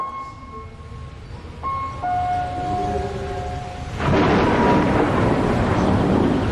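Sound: thunder rumbling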